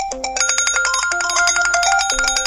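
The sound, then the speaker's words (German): Several smartphone alarms ring at once from two vests, set off for being too near the water as someone reaches it, their electronic beeping tones overlapping in a dense, rapid jangle, loud with no one speaking. “Als sie das Wasser erreichte, tönte aus Olivias und Alfies Weste ein Alarmkonzert.”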